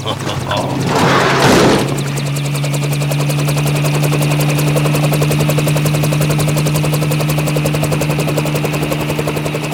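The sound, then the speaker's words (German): A police helicopter flies, its rotor beating in a fast, steady chop over a constant engine drone. A brief rushing burst comes early, then the whirring continues loud and even. “Und so brachte der Polizeihelikopter Sam, Malu, Yuma, Chico und Nuala wieder zu deren Lieblingsplatz auf der sonnigen Blumenwiese”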